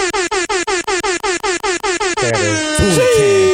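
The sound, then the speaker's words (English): A rapid burst of loud, repeated air horn blasts in a fast stuttering rhythm, ending in a sustained blaring horn with other brassy tones piling on, dominant. An air horn sound effect played as a salute to the sponsor Diamond Club. “I gotta give an air horn for the homie right here.”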